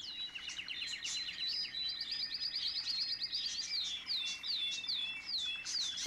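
Several birds chirp and tweet continuously in bright, overlapping calls, with rapid repeated trills and short rising notes forming a busy chorus that fills the whole stretch, steady in volume.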